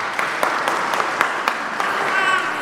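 An audience of kids claps steadily to vote on whose Play-Doh creation is better, a dense wash of many hands with sharper individual claps popping out. Toward the end a faint voice or cheer rises above the applause.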